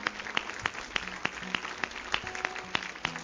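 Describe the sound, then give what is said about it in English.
A church audience claps together as a clap offering during a morning service, in a steady, quick rhythm, the sharp claps landing on an even beat over faint sustained musical tones in the background. “Can we give him a great clap offering this morning?”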